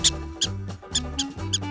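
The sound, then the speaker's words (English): A pet rat squeaks in a quick series of short, shrill chirps, repeating about every quarter to half second, set over a low, steady humming tone. “Pam has a pet rat.”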